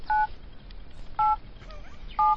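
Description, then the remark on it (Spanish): Three slow, evenly spaced mobile phone keypad tones as a parent in their forties or fifties dials a number or types a message, each a short steady dual-pitched beep, pressed one at a time with pauses between them over faint background hiss. “Este sería un padre o una madre, escucha, Pulpo, cuarentañera o cincuentañera, marcando un número de teléfono o mandando un mensaje.”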